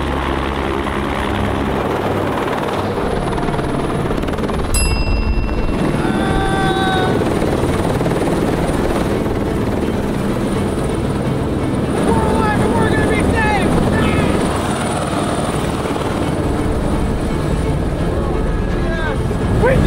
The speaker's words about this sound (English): Guys, I hear a helicopter. I hear it too. And they're coming for us? The British. I'm thankful to get off this lighthouse, but I'm also very scared of getting back in the helicopter.